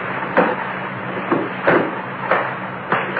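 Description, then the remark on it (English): A heavy metal safe door being worked open, with several dull clunks at uneven intervals over a steady rushing hiss, moderately loud, no voices. “I didn't recognize it at first, but as my eyes got more used to the business, I discovered the door of the safe was open.”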